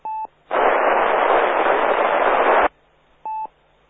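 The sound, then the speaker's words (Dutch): A faint amateur radio transmission answering the CQ Meppel net, not getting through the repeater, is lost in a loud two-second wash of hissing static, framed by a short electronic beep before and after. No one speaks clearly. “Dat was heel diep in de ruis.”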